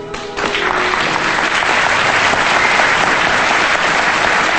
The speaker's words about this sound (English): the other audience members join her in a standing ovation. The cast takes another bow.